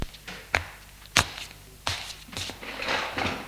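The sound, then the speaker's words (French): A few sharp wooden knocks and clunks, then a rough sliding scrape as a drawer of a light-coloured, country-style wooden dresser in a bedroom is pulled open. No voices. “Il s'approche de la commode et ouvre un tiroir.”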